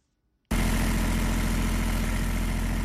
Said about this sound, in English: A machine at Junubi Soap Company in Juba foams soap bars out of palm oil and water-based products.